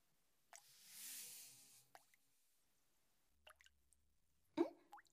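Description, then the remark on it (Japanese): Water drips and plops in a quiet, echoing shower while someone is showering, a few scattered drops with a brief hiss of running spray near the start and a louder splash toward the end. No one speaks. “そっか、それで今シャワー浴びてるのか。”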